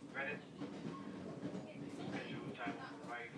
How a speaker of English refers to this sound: So anyway, we're on the train now, heading back towards Richmond.